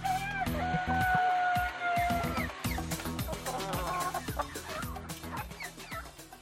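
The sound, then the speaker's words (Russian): A noisy commotion of chickens and roosters in a port, with dense overlapping clucks, squawks and drawn-out crowing calls filling the whole stretch, fairly loud. “Чертил заученно, без зла и без вдохновения, до тех пор, пока пароход не пропал из виду, а в порту остался один петушиный переполох.”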